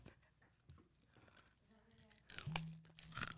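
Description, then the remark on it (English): Crisp crunching from someone chewing crunchy food, irregular bites that grow louder and busier toward the end, with a faint murmur or hum underneath. “My food isn't as crunchy because I only have, like, what's it called? M&M's, which M&M's are really good.”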